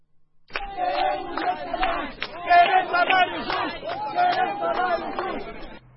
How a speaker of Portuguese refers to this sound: Os cartazes e a gritaria à porta da Textaf, reinaugurada em fevereiro de 2021 pelo presidente João Lourenço, consumada que estava a entrada em cena de uma gestão zimbabueana, simbolizavam o início da luta por um salário base